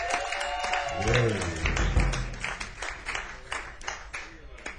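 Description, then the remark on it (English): An audience at a live band performance applauds as the electric bass player is introduced, with dense, steady clapping that continues throughout, while a wavering voice, like a cheer or whoop, rises briefly over it near the start. “Come on, you have to clap louder for me.”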